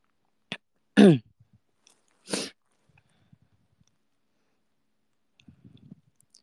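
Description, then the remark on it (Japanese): A few sharp sniffs through a stuffy nose, with one loud snorting pull and another a second later, then quiet apart from faint handling noises near the end. “本当に鼻をすすります。”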